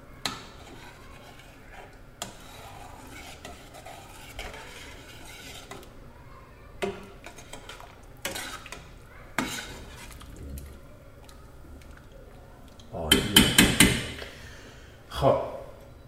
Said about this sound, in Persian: و آبلیمو رو اضافه میکنم بهش. از آبلیمون خب یه همش میزنم.